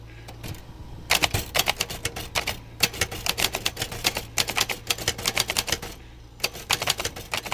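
Rapid mechanical typewriter keystrokes clatter in bursts in a home garage workshop where typewriters are repaired, pausing briefly between flurries, fairly loud with a faint low hum underneath and no voices.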